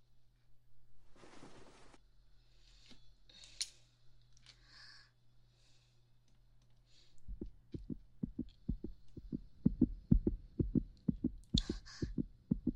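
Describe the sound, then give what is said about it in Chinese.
A fast heartbeat heard through a stethoscope: rapid, steady low thumps begin about halfway in and are prominent, after a stretch of faint rustling and scratching over a low steady hum. “这心跳怎么还是跳这么快啊？”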